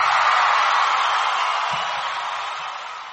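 Steady, dense audience applause fills the whole stretch, a loud wash of many hands clapping that tapers off slightly toward the end, with no talking over it.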